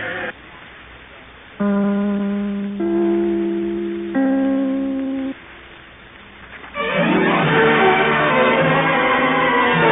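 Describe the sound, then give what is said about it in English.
The NBC (National Broadcasting Company) network chime rings out three sustained, bell-like notes, each struck in turn and slowly fading, on NBC's Sunday night program The Big Show, before a louder, fuller burst of music or applause takes over. “With all our other stars, but first, darlings, I would like to ring my chime.”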